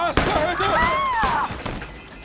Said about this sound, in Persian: صدای شلیک بود؟